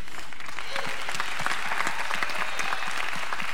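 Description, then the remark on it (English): Audience applause: a dense, steady wash of many hands clapping at an even level for several seconds, with a brief spoken voice heard through it. “This is hard for them, I know, because none of them, they're not up here for the applause.”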